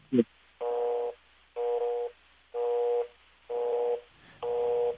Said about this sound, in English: that does sound like a step busy signal there